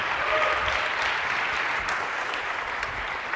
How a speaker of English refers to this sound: a big applause for her if we could.